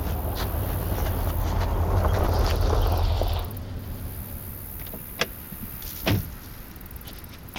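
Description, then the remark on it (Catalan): A car arrives and pulls up, its engine rumbling loudly and steadily, then cutting out after a few seconds, followed by a couple of sharp clicks or thuds, like a door or handle. “Ah, mira, ja arriba.”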